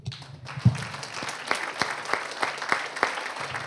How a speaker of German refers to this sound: Und zum einen denke ich mir, geben wir nochmal Herrn einen Applaus.